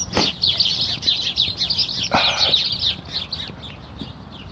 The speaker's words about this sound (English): Lots of little bird noises here today.